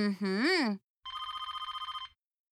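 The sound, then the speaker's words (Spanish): A short vocal sound with a rising-falling pitch, then the house's landline telephone bell rings in a rapid, steady trill for about a second before stopping. “¿Pero qué suena si mi celular no sirve? ¡Ah! ¡Y es el teléfono de la casa!”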